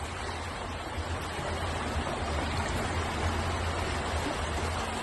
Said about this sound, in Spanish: Las calles de Ibiza parecían ríos. Escucha. Mira la calle de casa.